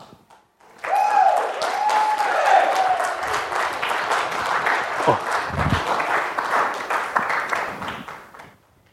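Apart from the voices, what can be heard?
audience applause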